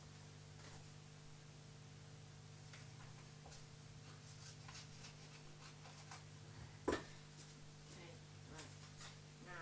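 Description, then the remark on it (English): Scissors cutting paper: faint, irregular little snipping clicks over a steady low hum and hiss, with one sharper, louder snip partway through. “Oh, no, my paper. Oh, my scissors.”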